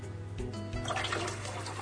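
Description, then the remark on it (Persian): A little water pours steadily into a bowl in a kitchen for about a second and a half, with a bubbly, gurgling splash over a low background hum. The pouring is moderately loud, and no one speaks. “یکم آب میریزم تو این کاسه و میذارم کنار سینی فر، یعنی در واقع جلوی سینی فر که بدونم کجا گذاشتم.”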